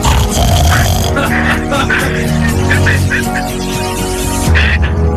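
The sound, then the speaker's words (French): A person imitates a pig's grunting: loud, rough, low snorting oinks in a steady run lasting about five seconds, with no other talk. “C'est tellement mignon quand ils font.”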